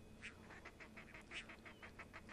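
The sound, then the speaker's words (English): Two pairs of crested ducks on a beach squabble in a rapid, overlapping run of harsh, agitated quacking calls, a dozen or so bursts tumbling over one another, with no talking. “As soon as I did, it seemed that they began to quarrel in a louder and more agitated tone, performing for the audience of bird counters on the beach.”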